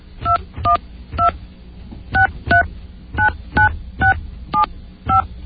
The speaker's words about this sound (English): I'm going to dial